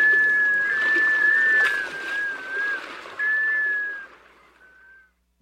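A scoter, a sea duck, gives its musical wailing call along the shoreline: long, slightly wavering whistled notes repeated in a few drawn-out phrases, carried over a steady rushing background hiss that fades near the end.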